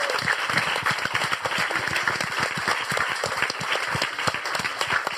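Sustained audience applause for a guest being introduced on a show, a dense, steady patter of many hands clapping at an even loudness for several seconds, with no voices standing out.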